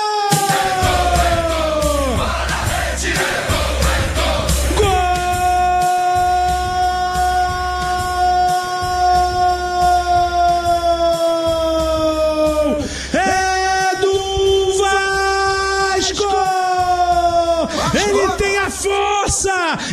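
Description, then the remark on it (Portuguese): A male Portuguese-language football commentator holds one long, loud, sustained goal shout for several seconds, wavering in pitch, then breaks into shorter bursts of yelling, over a steady low crowd rumble, as Spinelli scores for Vasco from Cuiabano's pass in a Copa Sul-Americana match. “daqui a pouco eu concluo, porque vem chegando o time do Vasco, lá pelo lado canhoto, é com o Cuiabano, invadiu a área, rolou pro meio, Spinelli, solta o grito!”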